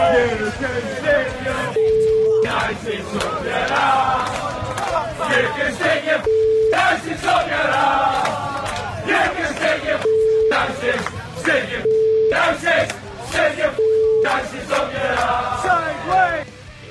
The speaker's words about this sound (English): Couple of beeps in there. I think those were some pretty happy Manchester United fans.